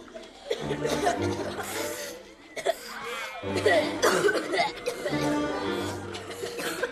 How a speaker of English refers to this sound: The boy students cough.